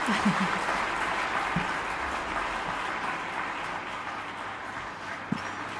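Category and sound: crowd, concert applause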